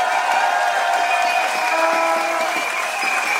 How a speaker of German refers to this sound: Während wir hier stehen und klatschen, versuchen schon wieder viele Menschen in die Tagebauer, auf die Bagger und auf die Gleise zu kommen.